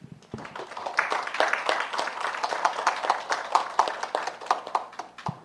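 A church audience at a worship service claps together in thanks to the Lord, sustained applause of many hands producing dense, rapid overlapping claps at steady moderate loudness for several seconds, with no talking.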